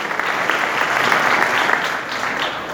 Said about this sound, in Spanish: De Monsanto al escenario. Pido un aplauso para él también, para que comparte unas palabras de esta experiencia que sigue creciendo año tras año.